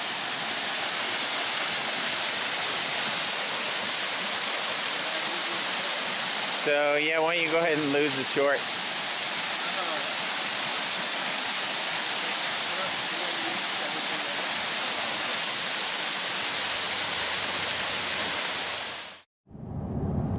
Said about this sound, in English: Okay, so we're here at a really pretty waterfall.